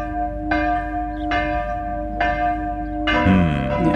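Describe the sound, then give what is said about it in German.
Church bells ring in a steady, harmonious peal, each stroke sustaining long tones that overlap, with a soft rush of wind underneath throughout. “Harmonisch haben wir vorher gesagt, harmonisches Geläut, ein bisschen an Wind hört man im Hintergrund.”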